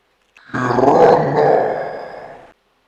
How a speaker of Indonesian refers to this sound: Di dalam hutan, kamu mendengar suara geraman.